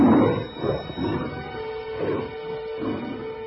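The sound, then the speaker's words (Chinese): Several hungry lions in a lions' den snarl and roar in rough, overlapping bursts, fairly loud, tearing apart people thrown into the pit, with a faint sustained tone running underneath in the second half. “那群被扔下狮子坑的人还没落到坑底，就被饥饿的狮子给撕碎了。”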